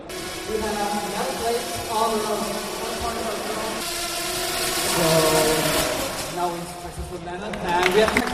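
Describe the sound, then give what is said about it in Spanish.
Racing drones at a drone racing competition buzz like metallic wasps, a steady, layered whine whose pitch keeps sliding up and down as the motors rev, with voices talking underneath. “Sí, sí, la verdad es que el sonido no es del todo agradable, pero es impresionante lo que pueden hacer hoy en día con drones.”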